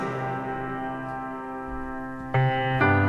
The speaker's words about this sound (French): Ding dong, la cloche a sonné.